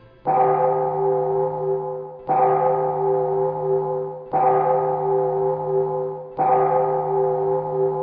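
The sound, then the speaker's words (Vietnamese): A temple bell rings four times at a slow, steady pace, each deep resonant strike humming with sustained overtones before the next one lands. No voices, just the bell, clear. “Tiếng chuông chùa vẫn đều đặn ngân nga mỗi buổi hoàng hôn, như gọi tỉnh những ai còn lặng hụt trong đường danh nẻo lời.”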